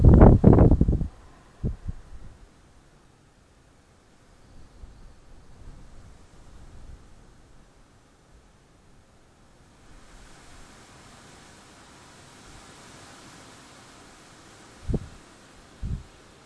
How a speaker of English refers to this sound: And I don't know if you guys can hear this, just. Just listen to the wind outside in the rain.